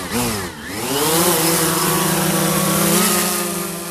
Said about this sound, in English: Outside Washington, D.C., one of the world's leading experts in the role drones play in humanitarian assistance puts one of his own through its paces.